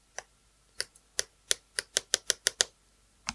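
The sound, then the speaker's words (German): A pen with its tip retracted tapping on a new device to test whether it works with a pen: about a dozen sharp clicks, spaced irregularly at first and then in a quicker run, with no talking. “Kannst du das neue Gerät mit dem Stift benutzen? Ich teste es aus. Nimm einen Stift. Fahr die Mine nicht aus.”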